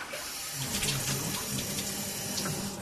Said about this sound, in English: It's about 2.2. Okay, so sink and shower is very efficient, running under 2 gallons per minute.